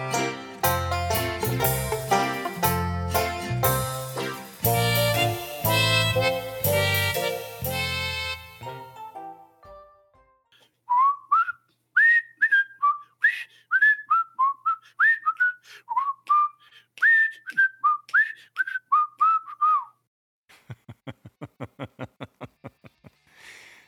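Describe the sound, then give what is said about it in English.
After a stretch of instrumental music fades out, someone whistles a short, bouncy tune of quick, clear notes, followed by a brief burst of chuckling. “So I guess we agree that you couldn't sing, so now you're whistling.”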